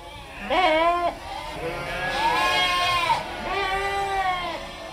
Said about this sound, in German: 150 Schafe und 195 Lämmer wuseln im Schafstall am Infohaus der Loki-Schmidt-Stiftung durcheinander und blöken aufgeregt